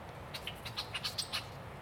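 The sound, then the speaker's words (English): Red-winged blackbirds calling in a quick series of short, high chips and notes from among 12-foot-tall weeds by a river on a windy day, over a steady low rumble of outdoor background noise. “This is all red-winged blackbirds.”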